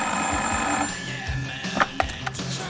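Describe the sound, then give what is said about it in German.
A telephone in an apartment rings in the evening in one bright, shrill burst that quickly cuts off, followed by a few soft clicks and knocks. “Plötzlich klingelte das Telefon.”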